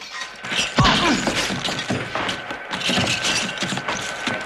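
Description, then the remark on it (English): A chaotic fistfight between Bond and Franks inside a cage lift: heavy thuds, smacks and scuffling blows, a head smacked against the cabinet's side, a sharp crash as the glass cabin windows smash, and clattering mechanical rattles throughout. No one speaks. “Bond smacks Franks' head against the cabinet's side, karate chops him on the neck, and hurls him towards the glass.”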